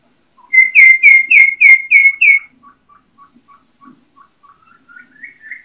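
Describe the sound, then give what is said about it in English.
Wild turkey hen kee-kee calls: six loud, high whistled notes in quick succession, followed by a run of faint, shorter peeps that climb slightly in pitch at the end. “Okay, now those are the key keys coming back, but you can hear that hen just out there.”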